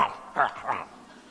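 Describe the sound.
A voice imitates a dog barking with three short, sharp yapping barks in quick succession, moderately loud.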